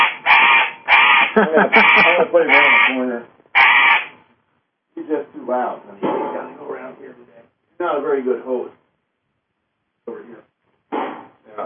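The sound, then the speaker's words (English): A pet bird squawks and caws loudly in harsh, raspy bursts, with gaps of silence between the outbursts over several seconds, outdoors at sunset. “He's just too wired, you know? That bird is wired.”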